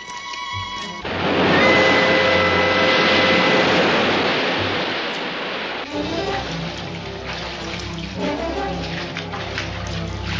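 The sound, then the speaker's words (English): Loud rushing water of an incoming tide swells in and holds as a dense, steady roar, then turns choppier with gurgling and splashing as the water keeps rising. No voices are heard. “Ned, we're definitely going up, but so is the water. Oh, the tide's coming in.”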